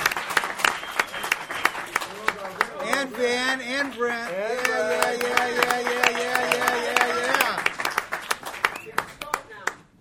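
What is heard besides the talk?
audience applause and clapping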